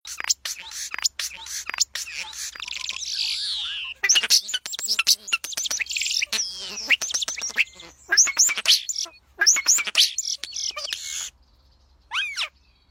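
A European starling sings a long, varied song of rapid clicks, rattles and squeaky whistles, fairly loud, with brief pauses and a final rising whistle.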